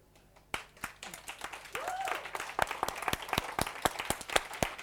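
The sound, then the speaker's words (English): An audience breaks into scattered applause for a volunteer who leads the children's work, many sharp claps building quickly and continuing steadily, with a faint voice briefly rising underneath the clapping. “I hope they're clapping louder in light than you're clapping down here in salt.”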